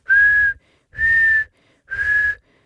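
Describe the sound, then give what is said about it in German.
Three steady, sustained notes whistled by a person at the same pitch, each about half a second long with brief pauses between, fairly loud, with breathy low rumble underneath and no talking. “Pfeifen ist eben eine Kunst, die man obendrein auf so unterschiedliche Weisen virtuos betreiben kann.”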